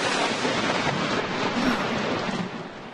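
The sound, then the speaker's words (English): A loud thunderclap from a lightning strike during a Texas Rangers–Minnesota Twins baseball game, a dense crackling roar that fills about three seconds before beginning to fade, with no voices. “That was not the crack of the bat, unless God was at the plate. It was a lightning strike during the Texas Rangers-Minnesota Twins game on Sunday.”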